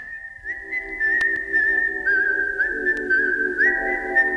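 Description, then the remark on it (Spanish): A clear, steady whistled film tune carries a sustained melody over soft sustained backing notes, sounding gentle and innocent, with no one speaking. “la atrocidad más grande que te puedas imaginar, y está sonando este silbidito que es como inocente, entonces te lleva un poco a estar ahí...”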